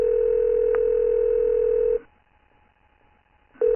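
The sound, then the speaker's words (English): A steady electronic telephone ringing tone of an incoming call from Andrew Forrest sounds for about two seconds, pauses briefly, then starts again. It is clear and prominent, with no voices. “The next day, after hearing about my other 1-to-1 interviews, Andrew Forrest called me on the phone.”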